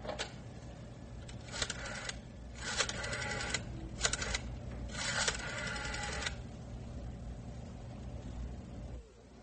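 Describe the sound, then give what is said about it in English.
A rotary telephone dial is turned several times in a row, each spin followed by a quick whirring click as it winds back, with short pauses between, over a low steady background hum. “Oh, this numbering machine's on the fritz. Can't seem to get the number I want.”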